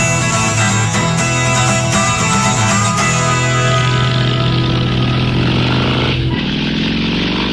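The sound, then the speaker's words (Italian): A motorcycle engine roars loudly, its buzzing tone holding steady before easing off and fading as the bike pulls away. No one speaks. “Quello che più mi piace nel sentire intanto questa moto che scorre via”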